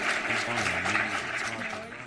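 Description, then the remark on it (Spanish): A steady burst of audience applause for a new member of the La Linterna team during an outdoor broadcast, dense and crackling throughout, with a few voices murmuring faintly underneath as the clapping holds at an even level. “Y yo creo que se merece un aplauso a la chica, ¿no?”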